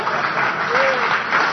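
An audience applauds with dense, steady clapping that fills the whole moment at a fairly loud level, a crowd's worth of hands blending into a continuous patter.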